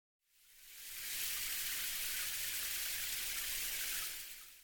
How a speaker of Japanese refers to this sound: 一旦シャワーで洗い流すね。